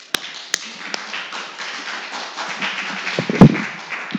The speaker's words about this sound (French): Faut les applaudir.